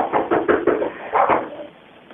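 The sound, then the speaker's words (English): A man bangs on a back patio door: a quick series of heavy thuds comes in a rapid burst, pauses briefly, then two more blows land before it fades. Muffled, with no talking. “Nope, he's at the back patio door again. I can hear him banging again.”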